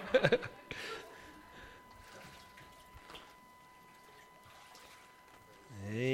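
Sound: water pouring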